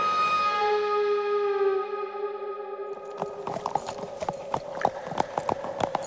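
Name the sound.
horse hooves clip-clopping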